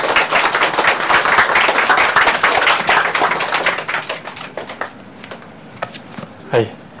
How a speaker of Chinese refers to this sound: 现在又等我们以热烈的掌声欢迎